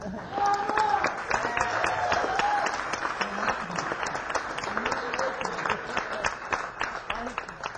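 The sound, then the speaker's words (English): An audience applauds steadily for several seconds, a dense patter of many hands clapping at a fairly loud, even level, with some voices and cheers mixed in. “Please applaud now and salve my wounded ego.”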